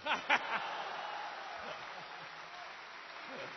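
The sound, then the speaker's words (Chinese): A live audience breaks into applause, a dense wash of many hands clapping at a steady moderate level, with a few sharp claps up front and scattered chuckles mixed in. “可以鼓掌了。”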